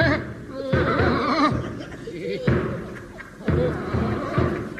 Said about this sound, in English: Look, it's a military gentleman walking up the line banging a drum.